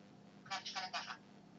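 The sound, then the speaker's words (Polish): A phone speaker covered with a right hand gives a muffled sound, a short burst of dull tones lasting under a second with a faint ringing quality, heard through a low steady hum. “Słychać, że ten dźwięk jest po pierwsze bardzo stłumiony, a poza tym nie wiem, czy to słychać, pojawia się takie dźwięczenie, prawda?”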